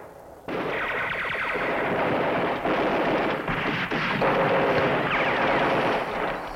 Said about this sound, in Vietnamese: Bùm, một tiếng bùm, rồi tiếp theo đó là xăng và đạn trong cái chiếc xe sẽ cháy nổ lóc tóc, ngọn lửa dâng cao, khói dâng cao là xong thôi.